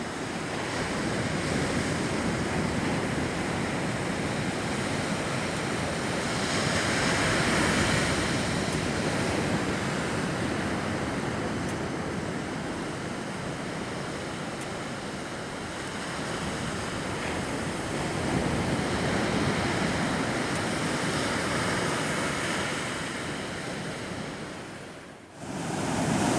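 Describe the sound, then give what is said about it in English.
Steady, loud surf on the beach at Cambria washes and rumbles in broad, hissing swells, with gusts of wind buffeting the microphone throughout; no voices are heard. “Cambria, at the beach, on the beach.”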